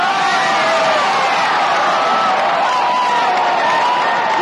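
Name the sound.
baseball stadium crowd cheering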